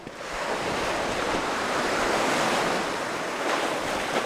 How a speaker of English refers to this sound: When the waves hit these rocks, instead of the rocks absorbing that force, it seems to direct that force backward into the next oncoming wave.